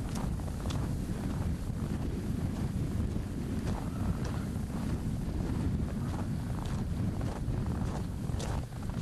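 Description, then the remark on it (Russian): Stormy wind roars over open tundra at minus 25 degrees in a steady, heavy low rumble, buffeting the microphone with gusts and occasional sharp clicks, with no voices. “A nyílt tundrán feltámadt viharos szélben a mínusz 25 fok szinte már elviselhetetlen.”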